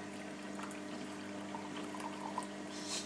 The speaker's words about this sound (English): Right, I'm now going for the pouring.